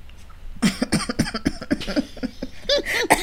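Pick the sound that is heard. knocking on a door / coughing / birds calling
coughing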